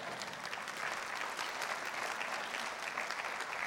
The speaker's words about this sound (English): This is the first, highest calling of the church is to reach the lost of the world. You should say amen and clap to that.